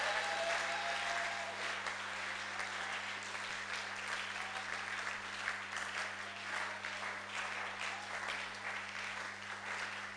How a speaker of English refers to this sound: Oh, come on, clap.